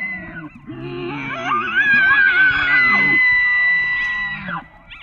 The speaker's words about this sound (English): Now, that's actually a recording of an elk from the National Park Service. They only call out like that in the fall.